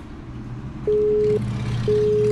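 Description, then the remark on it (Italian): A telephone line tone beeps twice in steady half-second pulses with short gaps over a low background rumble, as a radio show calls politician Giuseppe Ferlicca, and no one picks up. “Ferlicca in radio. Vediamo se ci risponde.”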